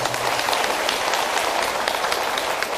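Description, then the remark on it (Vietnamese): Steady, dense applause from a crowd expressing deep gratitude, a continuous wash of many hands clapping at fairly even loudness throughout, with no voices heard over it. “Nên nhân dịp này đó, tất cả chúng ta bày tỏ lòng tri ân sâu sắc bằng một tràng vỗ tay thật lớn.”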